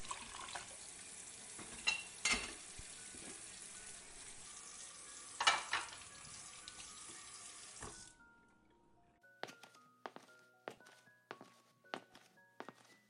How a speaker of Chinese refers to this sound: 我去洗碗。